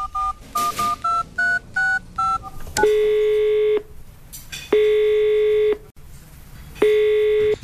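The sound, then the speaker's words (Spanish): A quick run of about seven short, evenly spaced keypad beeps as the phone number of a car repair workshop is dialed from a motorway service area at kilometre 145, followed by three long, steady ringing tones separated by pauses. No one speaks. “Mira, voy a llamar yo al taller ese.”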